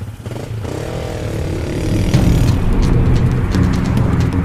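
A motorcycle engine rumbles, then revs up and grows louder as it pulls away with a passenger riding on the back, its throaty drone steady and continuous with no voices.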